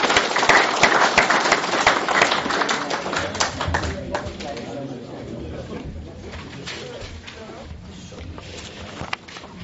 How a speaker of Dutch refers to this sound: Ik zou zeggen, laten we een hartelijke applaus geven voor alle medewerkers.